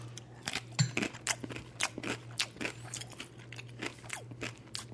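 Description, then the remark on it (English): Repeated crunching of dry ramen noodles eaten with seasoning and cottage cheese, about a dozen sharp crackly bites and chews in an irregular rhythm over a steady low hum. “So there's the seasoning, the crunchy ramen noodle, and cottage cheese.”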